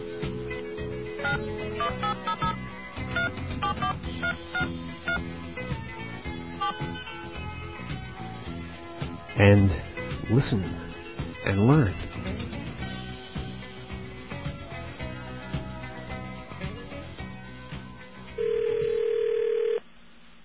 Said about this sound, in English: Now, this is what I want to demonstrate here. What we're going to do is connect to this particular 800 number using our trusty friend the dial tone here.